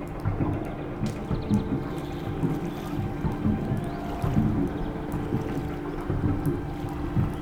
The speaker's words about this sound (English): There's a paddle boat, just a little old plastic paddle boat, two-person kind of thing.